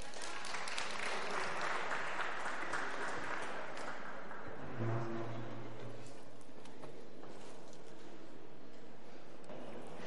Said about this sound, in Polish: Dobrze, szanowni Państwo, teraz zapraszamy na spektakl. Tutaj. Przed Państwem wystąpi teatr Mam Teatr. Mikrofony daj. Wielkie brawa.